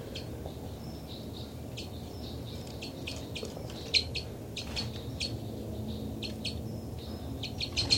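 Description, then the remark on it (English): Short, high-pitched flight calls of birds 273 and 274, flying across, chirp repeatedly in quick, irregular bursts over a steady low rumble of background noise, with no voices. “I'm in the cell of birds 273 and 274, and they're getting flight calls.”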